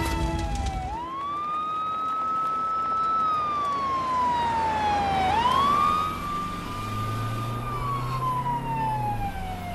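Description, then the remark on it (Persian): An ambulance siren wails loudly and close by, sweeping slowly up and down in long rising and falling tones, with a low engine rumble underneath and no voices. “من کجا؟ تو آمبولانس.”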